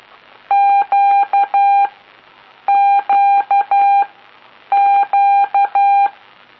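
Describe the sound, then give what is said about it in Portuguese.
A clear, steady Morse code tone beeps out the letter Q (Quebec) three times, a dash-dash-dot-dash pattern each time with brief pauses between repeats, loud and alone with no talking. “começa aí então a passar aí uns números, umas letras, palavras, né, uns indicativos”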